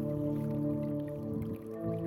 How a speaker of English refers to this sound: Okay, so this is a hydraulophone, underwater pipe organ.